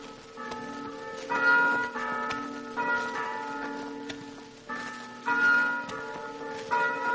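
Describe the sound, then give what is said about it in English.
Church bells ring out a slow melody, overlapping tones sustaining and decaying as new strikes come in steadily, fairly loud with a reverberant, open-air quality and no voices. “Oh, what beautiful chimes. They sound like the mission bells in California.”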